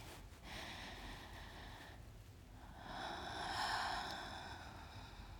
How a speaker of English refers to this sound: Okay. Slow it down. Slow it down. And breathe with me.